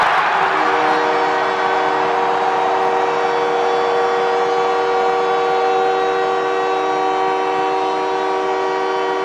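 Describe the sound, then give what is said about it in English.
A loud arena crowd roars and cheers nonstop after Canadiens captain Nick Suzuki scores his 22nd goal of the season, bringing the Canadiens within one, while a steady, droning goal horn blares over the noise the whole time. “Well, the captain of the Canadiens, Nick Suzuki, gets the crowd into hysterics as he gets the Canadiens to within one with his 22nd goal of the season.”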